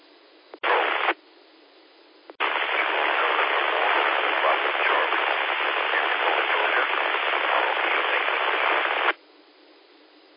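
Band-limited radio static hisses in two bursts, a short one and then a long steady roar lasting several seconds, as a weak station checks in over the radio; only fragments of its call sign can be made out, and the voice is too faint to pick out beneath the noise.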